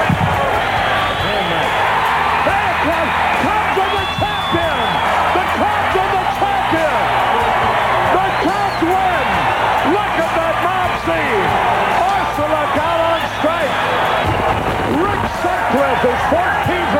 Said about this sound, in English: Listen to this crowd. Might as well join.